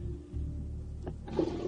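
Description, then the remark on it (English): The tail end of a toilet flush: a steady rush of water with a low rumble, a brief gurgle, then the refill swelling up again. No voices. “Still the end of that flush.”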